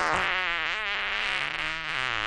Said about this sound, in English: He has said that he's testing sounds, and those are the three. A fart is one of them.